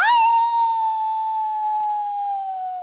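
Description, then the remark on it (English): A person imitates a wolf howl: one long, sustained tone held loud for about three seconds, pitch sliding slowly downward with rich harmonics, no other sounds around it. “A wolf, maybe? Yes!”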